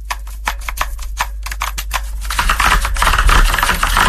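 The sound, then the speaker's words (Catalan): Rapid clicking of keys on a computer keyboard, a steady run of sharp taps for the first half that blurs into a denser, busier clatter, fairly loud with no talking. “Aquest és, sí, tenim un altre que és teclejar l'ordinador, sí.”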